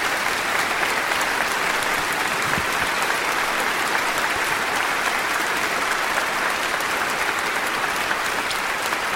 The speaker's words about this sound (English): But if you're a mother, would you stand, please, so we could honor you and clap for you? Let's honor all the mothers that are here.